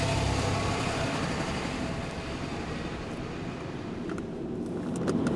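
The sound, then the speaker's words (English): A commuter's car drives off in morning rush-hour traffic with a steady engine and road rumble that holds for several seconds. It swells slightly toward the end, with a few faint clicks. “So, like a lot of commuters, I head for my car, knowing it will not be pretty. Okay, and away we go.”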